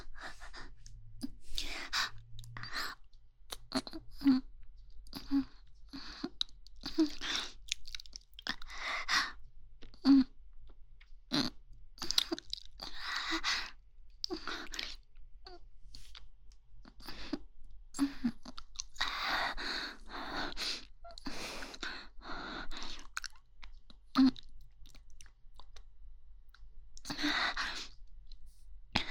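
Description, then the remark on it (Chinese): Wet mouth sounds of sucking and licking on toes and a heel repeat in an irregular rhythm for the whole stretch, mixed with soft breaths and sighs, with no talking. “刚刚，右边是含住主人的脚趾，现在是含住主人的脚后跟，可以吗？”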